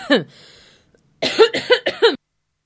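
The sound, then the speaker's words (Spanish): A loud coughing fit: one harsh cough, a brief wheezy inhale, then three rapid hacking coughs in a row before it falls quiet. “Y ya que salió toda la tos, que salga también lo que iba a decir.”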